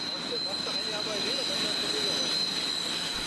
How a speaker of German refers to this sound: Oben quietscht die S-Bahn, unten in der Grenzallee staut sich der Verkehr vierspurig.